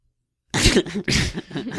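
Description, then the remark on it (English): A loud burst of bronchial coughing after a brief silence, several rough, breathy hacks in quick succession that rise and fall like laughter. “That's a weird cough. It sounds like I'm laughing, but it's really, I think it's bronchial”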